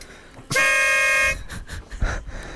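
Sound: horn honking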